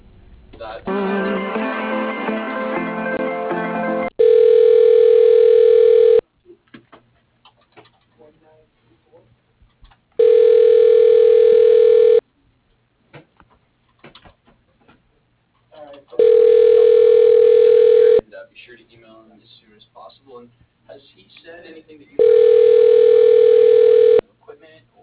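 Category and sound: signal or alarm, telephone ringing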